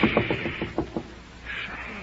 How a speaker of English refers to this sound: Do you hear anything? Of course I do. There's somebody at the door. Oh, my goodness, I thought so.